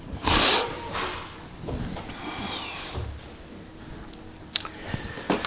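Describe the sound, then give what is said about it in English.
A door is pulled shut: a loud sweeping thud at the start, then some faint scraping and handling noise and a couple of sharp latch-like clicks near the end. “Can you close that door, please?”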